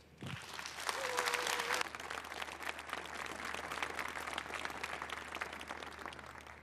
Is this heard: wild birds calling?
no